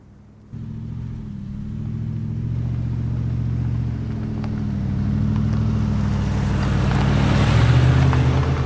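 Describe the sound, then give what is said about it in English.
A car engine kicks in abruptly and runs with a steady low rumble on a dark road, growing louder and rougher as the vehicle moves, with a shift in pitch near the end as it pulls up. “Wind chimes sway as her car pulls up.”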